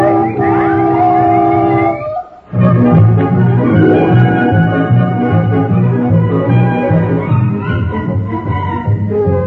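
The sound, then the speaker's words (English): A car horn blares in one long, loud, steady honk lasting about two seconds, then cuts off and gives way to a dense, busy wash of tonal, music-like sound. “Honk the horn, will you, Brownie?”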